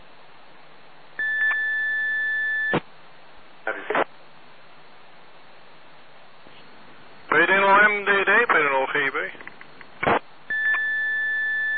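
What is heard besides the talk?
electronic alarm beeping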